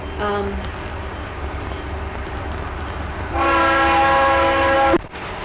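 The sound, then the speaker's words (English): A train bound for Tate and the Georgia Marble Works, hauling grain, pulpwood and marble dust, rumbles steadily past, its horn sounding a short blast at the start and then a longer, louder blare that cuts off abruptly near the end. “Where's that train going?”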